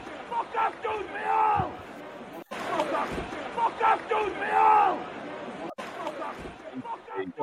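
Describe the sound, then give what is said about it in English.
A large football stadium crowd of home fans shouts "fuck off" and jeers at the visiting players in loud, rolling waves of massed voices, with overlapping chants swelling and dipping across the few seconds and a brief cut between passages. “That was basically the entire home fans for the whole game just shouting fuck off at all our players.”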